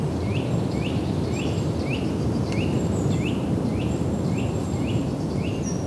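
Above Lake Cousseau, a bird repeats a short rising chirp about twice a second over a steady rush of wind, with a few faint higher whistles from other birds.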